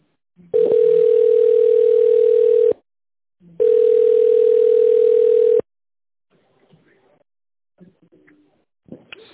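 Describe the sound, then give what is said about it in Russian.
Two long, steady telephone ringback tones, each about two seconds, separated by a pause, heard while waiting on the line for an operator at the company Irvin, followed by faint scattered line noise and a brief click at the end. “Если вы знаете внутренний номер абонента, пожалуйста, наберите его в тоновом режиме или дождитесь ответа оператора. Пожалуйста, оставайтесь на линии.”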